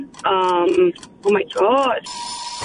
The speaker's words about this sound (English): There's the timer. I'm sorry. Or the buzzer.